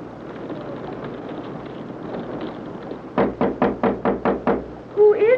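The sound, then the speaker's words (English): A series of about seven quick, firm knocks on a door sounds after a few seconds of low background rumble, followed by the start of a voice. “Jerry, can I come in? One moment until I unlock the door.”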